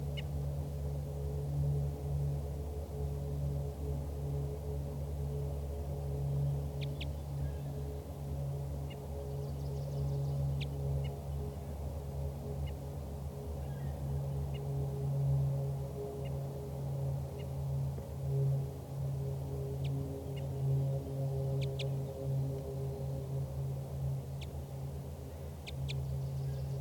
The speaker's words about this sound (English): Start recording again, that wild bird is giving flight calls and toops.